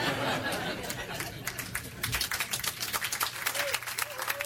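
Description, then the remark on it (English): A crowd breaks into sustained applause, dense overlapping claps filling the whole stretch, with a few scattered laughs and murmurs mixed in and a brief whistle near the end. “Applause break, huh?”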